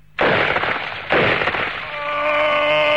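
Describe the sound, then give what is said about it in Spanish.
Two loud, sharp gunshots about a second apart, each with a rough decaying crack, followed by a steady tonal ringing that lingers to the end. “¡Deténgase! ¡Deténgase o disparo!”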